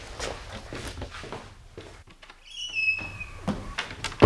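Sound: knocking on a door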